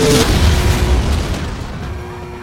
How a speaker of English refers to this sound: when suddenly there's this huge explosion.